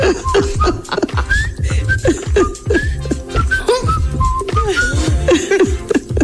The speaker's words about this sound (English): Stop whistling. There he goes with Andy Griffin.